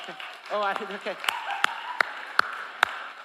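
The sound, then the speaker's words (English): Audience applause begins as a brief murmur of voices fades, coming as a few sharp, separate claps spaced roughly evenly rather than a full, dense ovation. “I realized that that may have sounded like I wanted an applause.”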